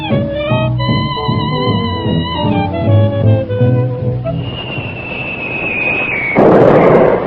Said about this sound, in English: Boy, that sounds like one of them incendiarium bombs.